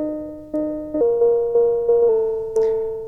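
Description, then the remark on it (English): Mysterious synthesizer tones with a gate signal patched into the trigger input: a string of about eight retriggered notes at an uneven pace, each with a sharp onset that slowly fades while the pitch steps between mid-range notes. “Oh, we get mysterious tones.”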